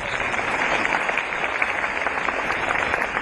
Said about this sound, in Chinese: 鼓掌